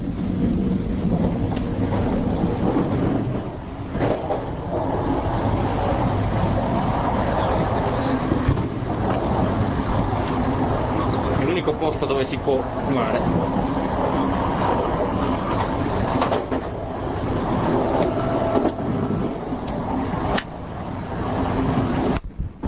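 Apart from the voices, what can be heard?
moving train interior rumble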